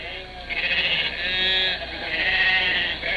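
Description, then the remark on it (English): A flock of sheep grazing on a prairie, eating the grass, bleats together in overlapping, wavering cries, loud, with several voices rising and falling continuously with no talking. “herds of sheep. What do they care for the barbed wire fences of the cattlemen and of the homesteaders?”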